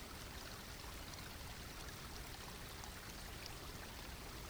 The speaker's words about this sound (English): Now look down at your feet, at the edge of the water, and step forward into the stream so that the water is running across the tops of your feet and around your ankles. Feel the coolness and the movement of the water.